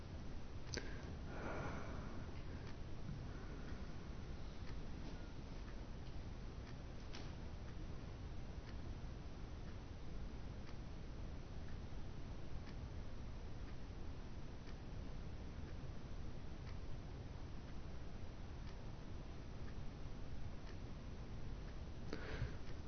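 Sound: ticking of a clock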